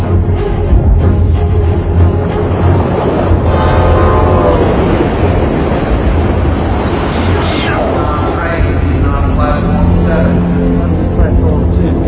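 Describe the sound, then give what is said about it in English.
An express train roars past without stopping, a loud, continuous rumble with rattling wheels and shrill metallic tones swelling and fading over about twelve seconds, faint murmuring voices buried underneath. “How come the train didn't stop? That's the express.”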